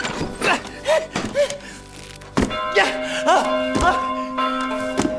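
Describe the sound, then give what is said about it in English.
A church bell in a Wild West town is rung to get everybody's attention, clanging four or five times in an uneven rhythm, each strike ringing on with a lingering metallic tone; brief vocal sounds come before the first stroke. “Who rang that church bell?”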